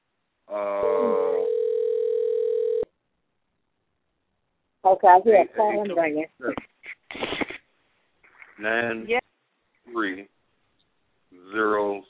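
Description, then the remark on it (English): A telephone dial tone hums as one steady, mid-pitched note for about two seconds while a phone call is being placed, and then cuts off. After a pause, people start talking in short bursts. “I'm gonna call you right now.”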